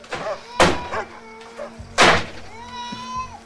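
A door is forcefully smashed open by someone who then storms upstairs, with two loud, sharp bangs about a second and a half apart, while faint voices murmur in the background.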